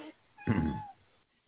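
A single clear cat meow, rising and then fading over about half a second, with quiet room tone before and after and no talking.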